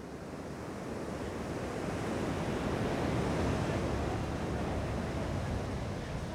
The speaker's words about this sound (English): We walk down to the beach where the wall stretches into the ocean, and we're mesmerized by the way that the waves break awkwardly against the wall. The metal posts disfigure the waves, but they can't stop them from coming.